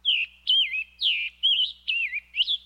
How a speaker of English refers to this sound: The Scarlet Tanager's song holds a similar tune, but this bird sounds a little hoarse.